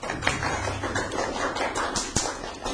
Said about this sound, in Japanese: はい、お願いします。 よろしくお願いします。 拍手。